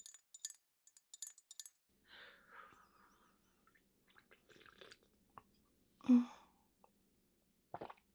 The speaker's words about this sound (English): Now, let me pour my coffee in.